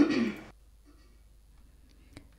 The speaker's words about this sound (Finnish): Huomataan, että tässä alussa esiintyy naispuhujan rykäisy. Se on suunnilleen tällä kohtaa. Kuunnellaan.